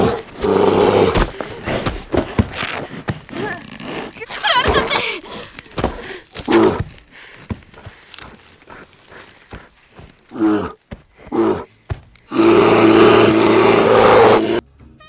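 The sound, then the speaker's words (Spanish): A bear in a film roars loudly, a short roar at the start and a long, sustained bellowing one at the end, with scuffling and grunting sounds in between. “Tenemos esto, que es la mejor interpretación de la película, que es la del oso.”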